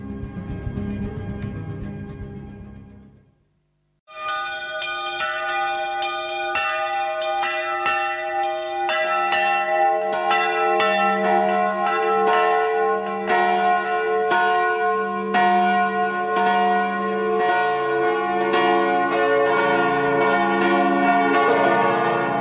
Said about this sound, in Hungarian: Hogy zúgnak szerte szét a nagy harangok. Bongásuk mély titokkal van tele. Mély gyorsan szállnak szélszárnyán a hangok. Megtelik velük a légtengere. Hangjuk belekiált az éjszakába. Minden harang, mint egy-egy ért torok.